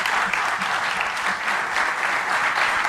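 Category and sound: crowd, audience applause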